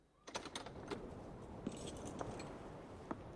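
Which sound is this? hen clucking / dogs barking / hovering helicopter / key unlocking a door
key unlocking a door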